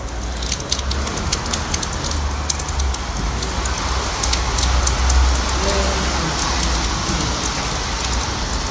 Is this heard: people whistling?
no